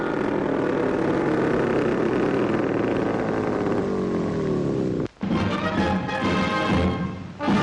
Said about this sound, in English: Down to a pontoon landing in the water. And as the motor purrs to a halt, we say farewell for now to a unique flying machine.